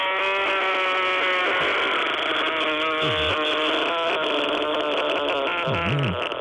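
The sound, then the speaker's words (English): A loud, unbroken rattling throat sound made by a man's uvula banging back and forth in his throat, gravelly and buzzing like an engine, held for several seconds with a couple of quick dips and swoops in pitch near the end. No talking. “You can hear like his nicotine-covered uvula just banging back and forth in his throat.”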